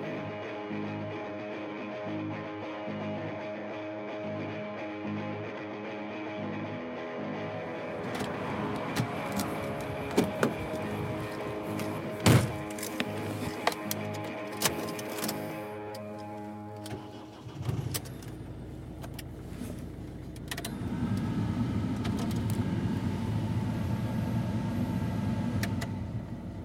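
A parked car's engine, left running because it is cold outside, idles steadily with a low, even hum, broken midway by scattered clicks and knocks, then shifting into a rougher, fuller rumble toward the end.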